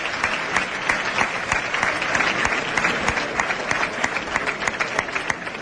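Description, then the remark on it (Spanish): A large audience in a bullring gives a sustained ovation during a mounted bullfight. Dense crackling applause holds at a steady, fairly loud level for several seconds, with sharp individual claps popping out of the wash. “Bueno, la ovación de respetable, porque esto no se ve todos los días.”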